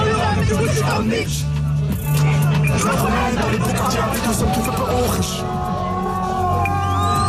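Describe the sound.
A large crowd of fans roars and cheers continuously during an open-top bus parade for a rap duo presenting a new album, with shouts and whoops rising over a dense hubbub of voices and a low rumble underneath, loud throughout.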